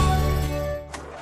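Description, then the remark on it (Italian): A car engine drones steadily for a moment, then abruptly dies out with a short, noisy sputter as it fails because the timing belt has come off. No one speaks. “C'è che mi sei sganciata la cinghia dalla distribuzione dalla macchina.”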